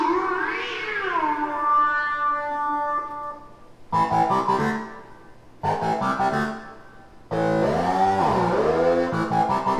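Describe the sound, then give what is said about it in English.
A cat meows loudly in a long drawn-out cry, followed by several abrupt, choppy bursts of meowing that sound electronically distorted. No one speaks. “Good kitty likes it, yes.”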